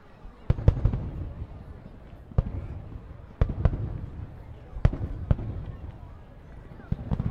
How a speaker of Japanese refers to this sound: うわ、目の前全部花火だよ。すごい。